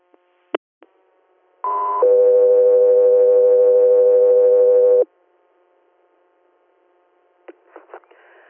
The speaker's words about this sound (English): stand by for tones.